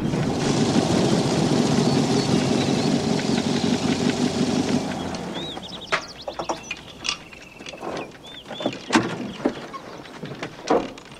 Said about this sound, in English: The car is now passing along a track in the green grassy hills, dust clouding up behind it.